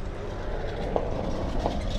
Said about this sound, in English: Probably heard that car just now.